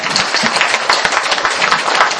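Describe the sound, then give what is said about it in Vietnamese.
A crowd claps together in a dense, steady patter of many overlapping hand claps, fairly loud and sustained throughout, with no voices standing out. “À, đánh đi cho con học, vỗ tay đi.”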